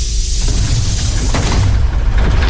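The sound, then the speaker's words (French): Bus doors slide open with a broad pneumatic hiss and a soft clunk, set against a steady low engine rumble, fairly loud, with no voices. “Les portes du bus s'ouvrent comme une libération.”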